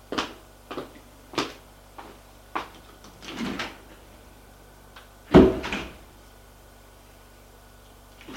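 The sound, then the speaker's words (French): Elevator doors clunk and rattle in a series of sharp knocks as a woman takes the elevator, followed by a heavier, louder thud as they close. A faint steady hum runs underneath, with no voices. “Elle va prendre l'ascenseur.”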